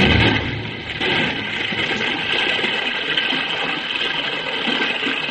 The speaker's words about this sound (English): Madre mía, look at the water pour through that gap.